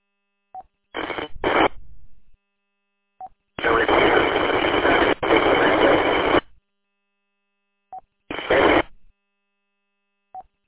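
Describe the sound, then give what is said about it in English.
Bursts of harsh, distorted ham radio transmission cut in and out: a few short squawks, then a long roaring burst of garbled, unreadable noise, each preceded by a faint click, with silence between. “you are completely unreadable.”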